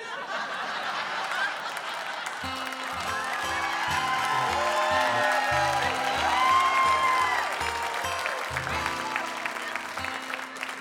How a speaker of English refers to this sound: $30 million people just clapped for that right now.